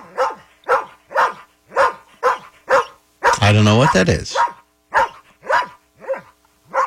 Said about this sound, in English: Just that particular Shar-Pei barks at me in the morning.